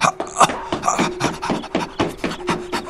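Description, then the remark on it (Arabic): A vicious dog pants in quick, rhythmic breathy bursts, about two or three huffs per second, steady and fairly loud with no voices over it. “إنه كلب عقور.”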